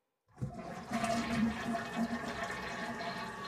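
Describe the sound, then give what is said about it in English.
A toilet flushes after a brief silence, a sustained rushing, gurgling swirl of water that stays fairly loud and steady for about three seconds with no talking. “Sometimes you just got to be willing to flush the flounder.”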